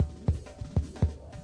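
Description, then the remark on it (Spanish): Deep, muffled heartbeat thumps, about four beats in a steady pulse, each a low bassy thud over a quiet background with no voices. “Latiendo al ritmo de América Latina.”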